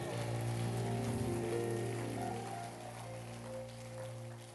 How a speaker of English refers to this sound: A clap of offering unto the Lord.